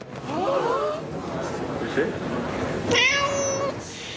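cat meowing

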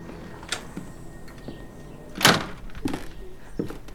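front door closing

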